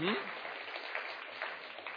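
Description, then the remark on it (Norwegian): An audience claps in a dense, steady burst of applause that keeps an even loudness throughout, with a brief voice audible at the very start. “Hvorfor klappet ikke mennene?”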